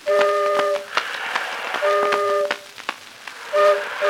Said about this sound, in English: Ah, there, boys and girls, here comes the excursion boat. Let's give three hearty cheers for the pride of the Mississippi. Throw out the stern line and stand by the gangplank. All aboard.